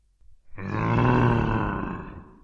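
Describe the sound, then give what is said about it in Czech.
A single deep, throaty bear growl swells up loudly and rumbles for about two seconds before fading, with no talking. “A tu Tonkovi došlo, že na něj mluví medvěd. Stál, hrozivě se díval a vrčel.”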